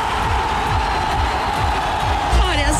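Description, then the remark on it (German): A crowd in Jerusalem cheers in welcome for Jesus and his disciples, waving palm branches, a dense, steady roar of many overlapping voices that stays loud throughout, with a rising whoop or whistle near the end. “Nein, das Volk jubelt Jesus mit Palmzweigen zu.”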